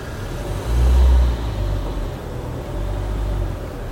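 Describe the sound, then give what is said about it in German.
A car engine rumbles low and steady as the car, coming from Geneva, arrives at a border customs checkpoint, swelling briefly louder near the start as if revving, then settling back into a continuous idle-like drone with no voices. “Und es scheint hier tatsächlich gerade, ich komme jetzt gerade an die Grenze, und es scheint hier tatsächlich irgendwie ein Zollmensch herumzustehen, denn manche Autos halten an.”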